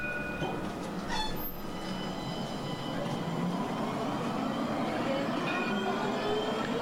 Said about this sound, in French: Je pense que vous avez pu reconnaître ce magnifique son, il s'agit bel et bien du tramway